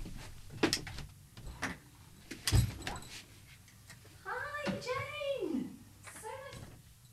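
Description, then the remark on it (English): A door is handled, with a few sharp clicks and a solid thump as it opens and shuts, followed by high, sing-song voices calling out. “And actually, I think she's just outside the door.”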